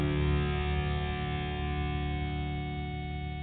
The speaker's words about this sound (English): Right, a little bit of guitar distortion in the back.